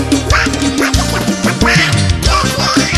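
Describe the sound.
A cartoonish duck voice quacks in a rapid series of raspy bursts, loud and close, layered over a thumping music track with a heavy bass beat.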